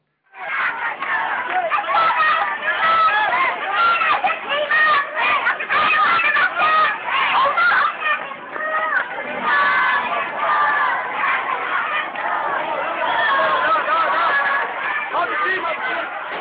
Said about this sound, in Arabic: هذا الفيديو الذي يظهر تلاميذ في بلدة داعل في محافظة درعا وهم يهتفون لا دراسة ولا تدريس حتى يسقط الرئيس